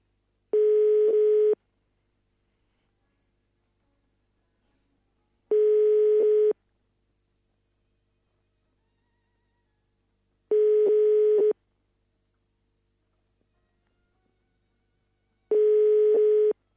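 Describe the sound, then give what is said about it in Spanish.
A telephone ringback tone sounds while placing a call, repeating four times, each burst about a second long with roughly four seconds of silence between, steady and clear with no one speaking. “A ver que si atiende, porque a veces es medio... Puede fallar, puede estar se tiene que levantar.”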